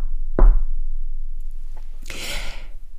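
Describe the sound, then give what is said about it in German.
A single loud knock on a door, followed by a much fainter tap and then a soft, breathy rush of air; no one speaks. “Doch plötzlich gefror sein Grinsen, als es an der Tür laut klopfte. Tock, tock.”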